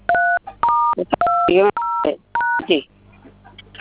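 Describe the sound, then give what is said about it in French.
Five crisp phone keypad DTMF tones beep in quick succession as a star code is dialed to check a phone plan. Each is a steady dual-pitched note, with short bursts of a voice slipping in between them, before a quieter, noisy tail. “Vous pouvez vérifier avec le code étoile 223, étoile 20, 223 étoiles.”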